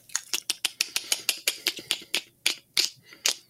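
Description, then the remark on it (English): A voice imitates the distinctive clicking noise of mandibles heard in a film: about fifteen sharp, dry mouth clicks in a quick, slightly uneven series, slowing and spacing out toward the end, with no talking. “Can you do an impression of the clicking noise?”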